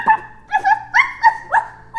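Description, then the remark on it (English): A voice imitates a small, yappy dog, mimicking a cranked-up box device that barks: five quick, high-pitched yips in an even rhythm, fairly loud, with no other talking. “That's a very yappy dog indeed.”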